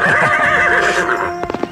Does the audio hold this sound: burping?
no